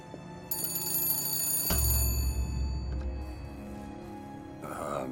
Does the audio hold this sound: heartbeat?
no